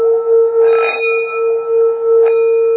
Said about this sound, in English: you ring the bell, that's the vitakka. And the resonance is the vichara. So the vichara is gone, the resonance, so you tick it again. But then there comes a time, you don't need to actually to strike the bell anymore, it starts to resonate by itself.